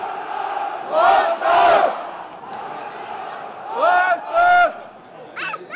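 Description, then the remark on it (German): About 1000 Hansa Rostock away fans chant and roar at a match against FC Bayern's second team at the Grünwalder stadium. They come in two loud surging bursts, voices rising together in a harmonic, sung shout over a constant background of crowd noise. “Die 1000 Gästefans zeigen eine beeindruckende Choreo und machen ordentlich Rabatz.”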